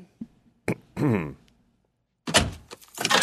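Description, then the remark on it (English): A couple of dull thunks like a car door, a short throaty vocal noise, then a pause before a burst of jingling and rustling, as if keys are handled, before a car ride. “Okay, another car ride, another opportunity to practice my DJ ramp-ups.”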